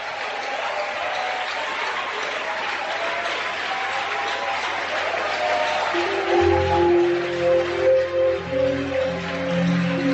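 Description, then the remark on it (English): A large crowd claps loudly and steadily for about ten seconds, the dense applause joined partway through by sustained keyboard or organ chords rising underneath. “Give him a big, big hand clap.”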